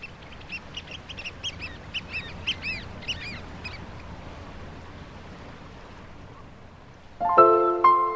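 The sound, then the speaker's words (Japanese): Several ducks quack in a quick, uneven series over a steady background of running water, waterbirds of the Zenpukuji River in Suginami. The calls stop after a few seconds, and a bright chiming musical jingle enters at the end. “善福寺川、水鳥の住む水辺創出事業シンポジウム。”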